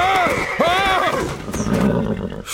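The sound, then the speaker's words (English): A horse rears up on its hind legs as its rider reins back hard, letting out a loud whinny with shrill, wavering rises and falls, then the sound trails off into rougher snorting and shuffling noises for a moment. “Buck reined back so hard that he caused his horse to rear up on its hind leg.”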